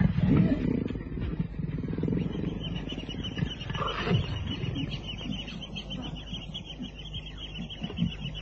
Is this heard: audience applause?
no